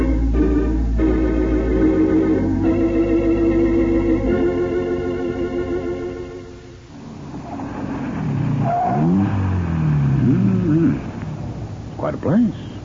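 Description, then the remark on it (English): A car engine revs loudly, its pitch stepping up through several surges before fading as the car pulls away; afterward, voices talk over quieter background noise. “Which is your car? This one right here.”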